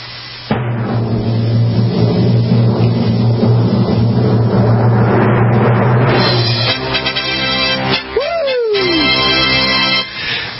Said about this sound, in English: Give us a drum roll.